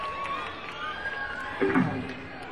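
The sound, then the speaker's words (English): An audience at a live music show cheers and whoops for the keyboard player in a steady, dense roar, with a brief louder swell of shouting toward the end and faint sustained tones running beneath the crowd noise. “Make some noise for … on the keys, y'all.”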